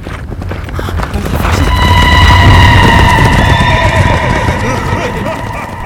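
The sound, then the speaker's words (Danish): A horse-drawn carriage rumbles closer along a path, its wheels and hooves building into a low, steady roar as horses whinny loudly, their shrill, wavering neighs rising above the approaching clatter. “Så du også den karret med hovedløse heste?”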